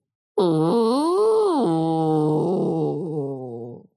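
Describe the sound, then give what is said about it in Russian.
A woman imitates a zombie with one long, loud, guttural moan that rises and falls in pitch, alone, lasting about three seconds before trailing off. “Она опять стонет, потом стучит кулаком по столу.”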